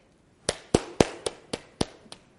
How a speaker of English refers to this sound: Applause for God.